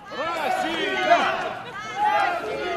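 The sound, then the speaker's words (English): A loud crowd of pro-Moscow activists outside Simferopol cheers and shouts as Russian troops take over a military base, many overlapping voices rising and falling together with no pause across a few seconds, swelling slightly near the end. “Outside Simferopol, pro-Moscow activists cheer as Russian troops take over another military base.”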